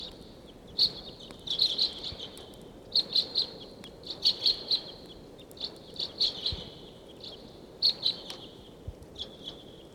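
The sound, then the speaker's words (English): Repeated short, high-pitched chip calls, type 2 bird calls, come in quick clusters of two to four notes across the whole stretch, moderately loud over a steady low rumble of background noise, in the afternoon of October 11 while decoys call loudly. “These all sound like type 2s.”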